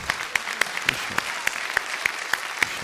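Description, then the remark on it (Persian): An audience at a networking gathering applauds a speaker, a steady wash of clapping with sharp, evenly timed claps cutting through in a quick, regular beat. There is no talking over it. “تشویقاتون خیلی ضعیفه، خداییش تشویق محکمتر.”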